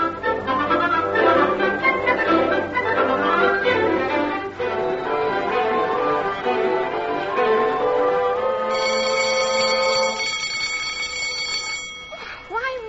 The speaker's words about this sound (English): School have bells that make you jump out of your skin.